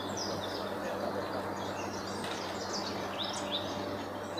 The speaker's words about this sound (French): En voici quelques-uns, enregistrés ce matin. Le chant des oiseaux.